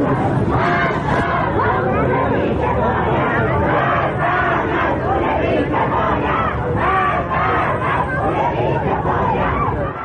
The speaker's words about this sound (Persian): مردم همدان دیشب به خیابان‌ها آمدند و علیه مسئولان کشور شعار دادند.